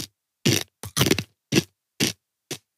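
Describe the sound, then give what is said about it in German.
Someone bites into an almond and chews, producing about seven sharp, crisp crunches at an uneven rhythm with short silent gaps between them. No one speaks. “Wir sehen jetzt ja genau in der Statistik, genau wenn ich jetzt reinbeiße, einmal.”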